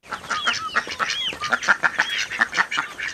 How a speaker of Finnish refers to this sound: tyrkkää ruokakulhon kaakattajille